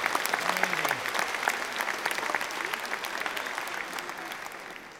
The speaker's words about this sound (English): Big round of applause for all the technical people involved, please.